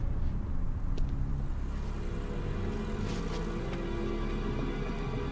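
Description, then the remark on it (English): Outdoor car park ambience at night at the Welsh Hospital car park, with a car's low engine rumble holding steady throughout, a broad wash of background noise and a few faint clicks and taps scattered over it. “He turns and leaves, running away from the car park.”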